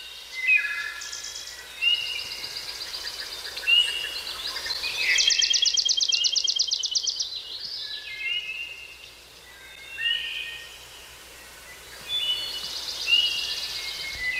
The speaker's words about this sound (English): You know, that kind of sounds like spring is coming, not exactly like right now where their birds are going away a little bit.